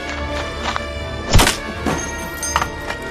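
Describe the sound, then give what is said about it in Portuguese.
The latch of an outside cellar door of a house is smashed open with one heavy, deep thunk, surrounded by a few lighter knocks and rattles against a steady low hum. No one speaks. “Sai correndo e arrebento o trinco.”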